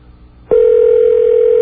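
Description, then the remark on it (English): A steady electronic telephone ringing tone starts abruptly after a brief low hum and holds as one continuous, loud tone through the end, with no voices, as a call is placed to a Holiday Inn in Anchorage, Alaska. “Doesn't sound like a phone ringing all the way in Alaska, does it?”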